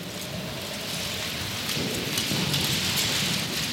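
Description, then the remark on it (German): About 800 willow rods hanging from a ceiling in an art installation rustle as someone walks through them, a dense, continuous swish that sounds much like steady rain, swelling slightly louder partway through, with no voices. “Wer durch den Regen hindurchgeht, hört nicht nur die Ranken rascheln”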